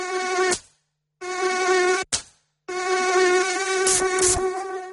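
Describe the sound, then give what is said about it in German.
A loud mosquito whine with a steady high-pitched drone, cutting out abruptly twice in brief silences before resuming, with no one speaking, in an advert for Antibrum protection against mosquitoes and ticks. “Antibrum, der wirksame Schutz gegen Mücken und Zecken.”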